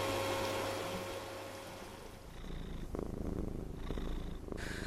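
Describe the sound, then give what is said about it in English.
A cat purrs steadily, a low continuous rumbling that fills the whole stretch with no talking over it. “You're such a beautiful cat.”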